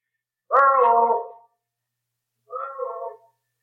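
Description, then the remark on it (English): A single long, drawn-out shouted name rings out in Echo Valley, then after about a second of silence a fainter, shorter copy returns as an echo off the cliffs around a waterfall. “Well, that's one reason this is called Echo Valley. The cliffs around the waterfall down the trail make a perfect sounding board.”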